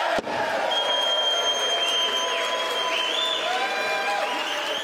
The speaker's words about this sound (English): Wow. I like the way they applaud themselves. But should they be? Congress is applauding itself when it passes Mr. Trump's bill